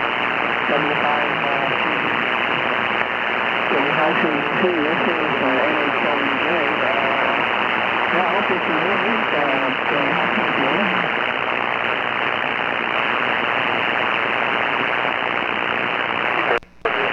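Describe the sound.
Steady, dense hiss of amateur radio static heard with the antenna pointed toward the other station, with a faint, garbled voice buried underneath, then cuts off abruptly near the end.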